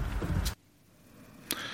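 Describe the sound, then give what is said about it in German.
A car door shuts with a solid thump that cuts off the surrounding noise, followed after a short quiet by a sharp click as a door opens again while a car is being unloaded. “Wir laden jetzt mal das Auto aus.”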